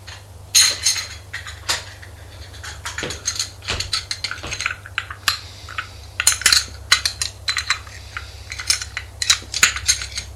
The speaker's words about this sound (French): Jean-Denis arrive avec un plateau où se trouvent des tasses.